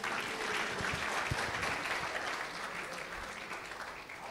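An audience bursts into steady, dense applause, many hands clapping together at close range for several seconds before it slowly thins out.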